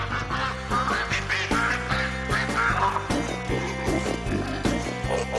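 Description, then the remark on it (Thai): A flock of ducks, meant to help suppress locusts, quacks continuously, many overlapping nasal calls forming a loud, busy chatter with no talking. “ซึ่งก็หวังว่าฝูงเป็ดเหล่านี้จะช่วยปราบตั๊กแตนได้สำเร็จเหมือนในอดีตค่ะ”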